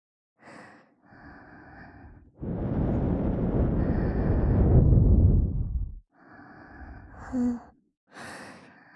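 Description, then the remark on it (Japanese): Breathy puffs blown right against an ear to try to clear earwax, with one long, loud, rushing blow in the middle flanked by a few shorter, softer exhales. No talking. “うん、息吹きかけるだけじゃ全然取れない。”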